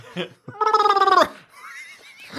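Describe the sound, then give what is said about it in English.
A person does a vocal horse imitation, a rapid trilling whinny lasting under a second with a wobbling, gargly pitch, followed by softer breathy vocal sounds. “That's a horse noise.”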